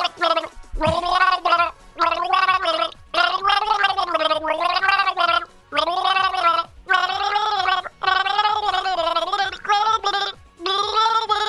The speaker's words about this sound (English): Okay, you got some water on me. Thank you. I appreciate that. Nothing like having gargle spit all over me.